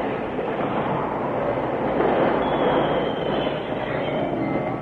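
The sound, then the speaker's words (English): A train rumbles and clatters loudly and steadily along the rails as it brakes to a complete stop, a thin, faint squeal of braking wheels creeping in toward the end, with no voices. “The train responded slowly to his efforts, until just a few yards from the gaping space where the bridge used to be, it came to a complete stop.”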